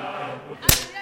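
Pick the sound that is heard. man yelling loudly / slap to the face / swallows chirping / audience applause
slap to the face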